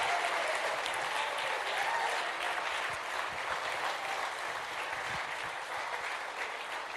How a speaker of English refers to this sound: Let's cheer for every single person and welcome them.